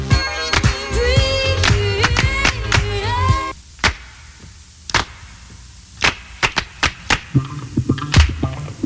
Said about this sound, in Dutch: Mooi, dat baslijntje.